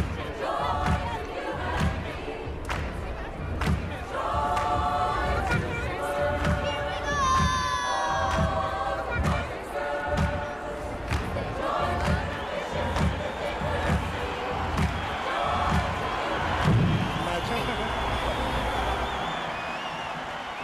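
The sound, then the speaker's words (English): Heavy, regular thuds of a giant granny street puppet's footsteps land about once a second as she walks through the streets of Limerick, Ireland, amid a cheering crowd of nearly 100,000 people on a September weekend in 2014, with children shouting and voices calling out throughout. “The footsteps there of the giant granny as she walked in Limerick amongst nearly 100,000 people over a truly magical September weekend.”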